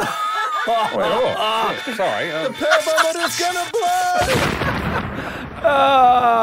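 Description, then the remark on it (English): A sound-effect explosion bursts in as a rough, noisy blast lasting about a second, coming after several seconds of wavering, warbling vocal tones, which resume once the blast fades. “The pervometer's gonna blow!”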